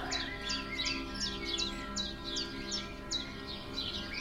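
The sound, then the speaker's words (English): A pet bird named Red Red chirps a quick, steady series of short, bright notes, about two or three per second, saying bye-bye, over a faint low hum, with no one talking. “Red Red saying bye-bye.”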